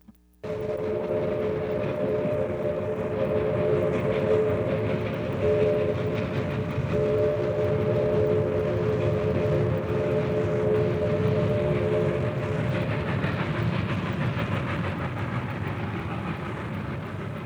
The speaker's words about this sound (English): Train on track 4, South Avenue 2.